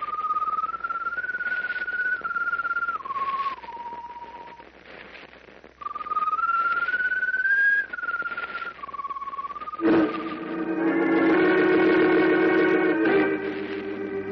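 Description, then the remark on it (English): A strange glowing bird perched on top of a mast whistles a slow, mournful tune, long held notes sliding and stepping in pitch, followed by a fuller, brighter sustained tone that swells louder near the end. “Echoing the doctor's pronouncement of impending doom, the strange glowing bird perched on top of the mast whistles mournfully.”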